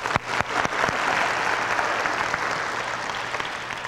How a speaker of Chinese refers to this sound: 这个，我们为他们四位鼓掌一下，好不好？